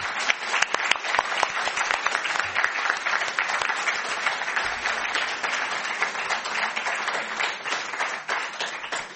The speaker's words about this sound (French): Et bien sur cette note de mystère, nous terminons cette première partie de la soirée. Merci d'applaudir nos intervenants.